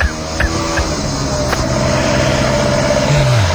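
A motorcycle engine drones loudly and steadily, its pitch dropping at the end as it passes.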